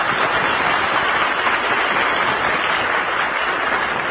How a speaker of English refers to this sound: Here's the party lineup for today. The Big Breakfast in Hollywood Shindigs are being staged in Coal City, Illinois, Glencoe, Oklahoma, Lakewood, New Jersey, Omaha, Nebraska, and in St. Louis, Mo. Let's send them a cheer from the home base.